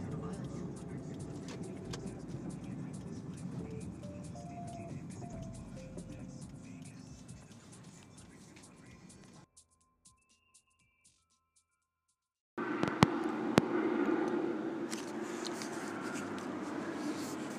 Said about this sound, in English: Helicopter went through here. It got pretty close. I had a premonition it was going to swoop back around. I wanted to capture it the best way I could. Flew off into the sunset, or sunset-ish, adjacent,